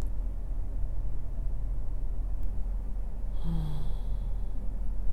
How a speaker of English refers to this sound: Focus on the sound of my breathing, the rise and fall of my chest, the steady rhythm of my heartbeat, the warmth of my body as I hold you.